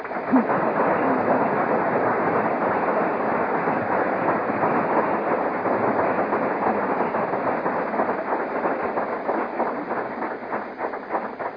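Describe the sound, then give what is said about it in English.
A crowd applauds steadily for about twelve seconds, a dense, even crackle of many hands clapping that holds at full strength and only eases slightly toward the end, with no voices. “And I take it you're applauding for yourselves, because I certainly hadn't done it on my own, and I never could have, and I tried.”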